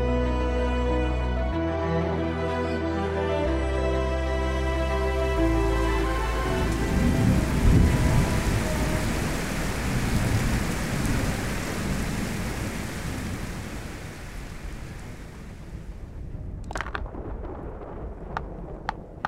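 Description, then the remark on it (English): After a few seconds of sustained musical tones, heavy rain pours in a dense, steady roar with a low rumbling undertone, easing slightly before a few sharp clicks near the end. “Dad, how much longer until the rain stops?”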